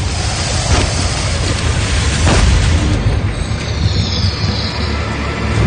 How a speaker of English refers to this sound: Oh my God! Look at a giant rifle! Shot the gator in the head.